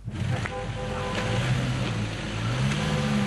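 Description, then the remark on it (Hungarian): A small bus engine drones steadily, its low pitch rising and falling as it strains and revs trying to climb a snowy uphill slope it fails to get up, with a constant rushing noise of wind or spinning tires underneath; snow had been shoveled to help it. “Lapáttal kellett kaparni a havat, hogy a kis busz feljusson. De nem jutott fel az emelkedőn.”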